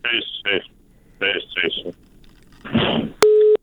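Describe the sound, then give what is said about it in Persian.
Garbled, broken-up speech over a phone line gives way to a short burst of noise, then a loud, steady electronic tone cuts in as the call drops into a busy signal. “آن قطع شد.”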